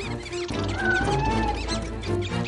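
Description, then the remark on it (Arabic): Shrill, rapid squeaks of mice under attack by cats chatter over a dense, continuous bed of tonal, music-like sound, with a few longer gliding whistles rising and falling through the middle. “رائع، عظيم، انتصار ولا أجمل، هزيمة ساحقة للفئران.”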